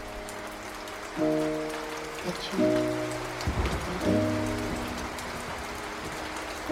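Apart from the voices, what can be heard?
rain falling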